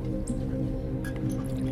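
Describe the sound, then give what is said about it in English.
Scotch pours into a glass in a short burst of gurgling drips and splashes, with a steady low hum underneath. “He pours me more scotch.”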